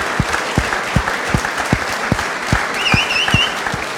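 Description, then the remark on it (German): An audience applauds a player's announced move from Dynamo to Werder Bremen in the Bundesliga, with dense, steady clapping throughout, punctuated by a regular low thump roughly every half second, and a brief high whistle or cheer rising near the end. “Ich denke, das verdient Applaus.”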